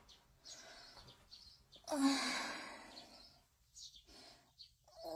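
Birds chirp in short, repeated bursts, with a loud breathy sigh in the middle and no talking.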